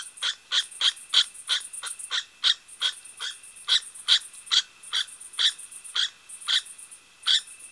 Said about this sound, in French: À la belle saison, le soir ou la nuit, on peut entendre les cris du loir.